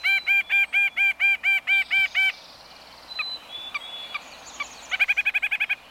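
nuthatch calls

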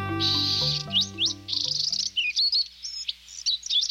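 bewick's wren singing

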